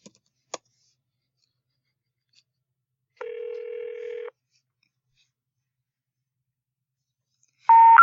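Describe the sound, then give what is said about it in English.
Two sharp handset clicks as a call is placed to a home landline, then a steady electronic telephone tone holding for about a second, and after a pause a brighter, louder tone starting at the very end, with no voices. “I'm going to try the cell phone before I play the recording.”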